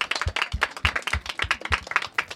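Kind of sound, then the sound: crowd, audience clapping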